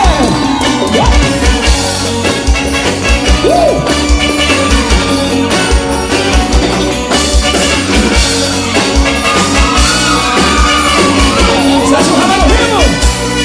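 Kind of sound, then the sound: crowd, audience shouting and cheering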